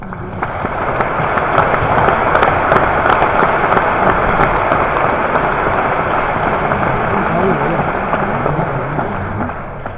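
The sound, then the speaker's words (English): A crowd applauds steadily for the full length, dense overlapping claps forming a loud, even wash of noise with a few sharper individual claps standing out; a warm welcome for designer Bruno Monguzzi. “So I would like to ask you a warm applause for Bruno Monguzzi.”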